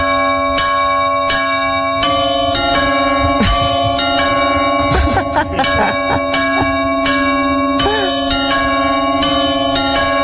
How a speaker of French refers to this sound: Eh ben écoutez, maintenant les cloches de l'église du village d'Arvigna, ça fait ça.